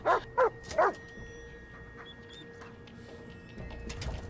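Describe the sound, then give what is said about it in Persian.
A guard dog named Rex barks three times in quick succession, loud, then falls quiet apart from a few faint, high whimpers over a low background hum. “مراقب باش، اون سگ نگهبانه.”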